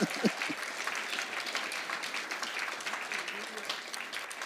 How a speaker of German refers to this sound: Halleluja. Ja komm, klatsch doch mal.